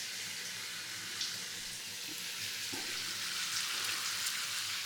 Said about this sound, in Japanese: はい、それではシャワー失礼させていただきます。